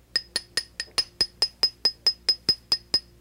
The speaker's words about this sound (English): Here's a 20-penny spike, 50-cent hammer, and a no-sense head. I'm going to drive a spike in my head.